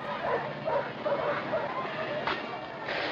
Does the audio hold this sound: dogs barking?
yes